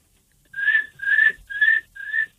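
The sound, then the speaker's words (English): A person imitates cricket chirping with four evenly spaced, high, breathy whistled chirps, each lasting about a third of a second, fairly loud and with no talking. “That's what crickets sound like.”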